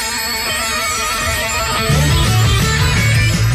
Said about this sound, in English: Like it's a little bike bell.